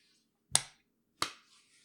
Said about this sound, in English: Now slap them. You heard me. Slap your testicles.